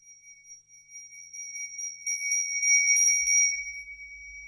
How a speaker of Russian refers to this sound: Пергаментная рука старого лорда тянется к бронзовому колокольчику, украшенному британским львом.